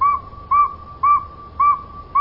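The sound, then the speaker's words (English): A northern saw-whet owl at night gives a steady series of clear, high whistled toots, five evenly spaced notes about two per second, loud against a quiet background. “This nighttime whistler's a northern saw-whet owl.”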